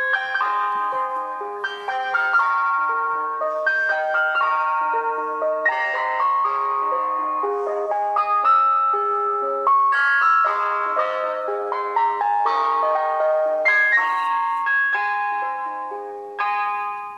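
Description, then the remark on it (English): A bright, tinkling ice cream van chime plays a repeating melody of bell-like notes, steady and fairly loud for the whole stretch with no voices over it. “London councils are trying to ban ice cream vans, which is so sad.”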